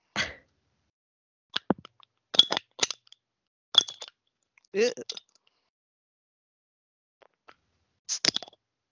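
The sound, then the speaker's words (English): A bottle opener works at a bottle cap held up to a microphone, giving several sharp metallic clicks and clinks in uneven clusters with pauses between. One brief vocal sound breaks in midway, and no clear pop follows. “So I'm going to try and pop it on the mic here with my bottle opener.”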